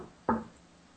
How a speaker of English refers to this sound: If you can make a noise like this, a double knock, can you please do that for us? I've tried this again. If you can make a double knock.